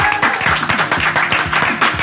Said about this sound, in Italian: Applauso. Senti quanti ospiti, cazzo, bellissimo.